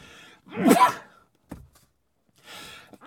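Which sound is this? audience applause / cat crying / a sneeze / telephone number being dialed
a sneeze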